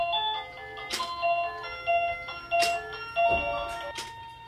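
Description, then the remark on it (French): A mechanical carillon with small animated figures plays a bright, bell-like melody, its ringing tones overlapping and sustaining, with scattered bursts of outdoor noise mixed in. “Voilà, les petits personnages du carillon sont arrêtés.”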